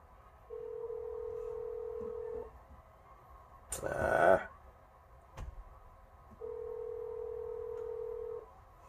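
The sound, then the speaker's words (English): Telephone keypad tones while dialing into a conference call, after hitting a wrong number: two long, steady mid-pitched beeps, each about two seconds, separated by a brief burst of rustling clatter and a single sharp click. “Made a mistake there. Hit the wrong number. Let me try this one more time here.”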